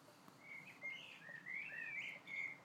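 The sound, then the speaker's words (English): Birds singing in a garden, a string of bright, high chirps and short warbling whistles rising and falling over a soft background hiss, with no voices. “Because we all know birds are mechanical and every night they get wound up.”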